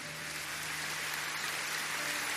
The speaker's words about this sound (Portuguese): Pode ficar de pé, todo mundo que levantou a mão, todo mundo. Pode começar a aplaudir, olha quanta gente.